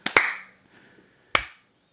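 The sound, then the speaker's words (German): A small, sparse bit of applause: two quick sharp claps followed by a pause and a single clap, crisp and fairly loud, with no talking. “Kriege ich auch einen Applaus ein bisschen?”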